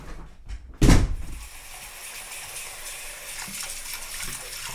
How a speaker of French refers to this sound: Est-ce qu'on est bien quand on est dans son bain? On fait des grosses bulles, on joue au sous-marin.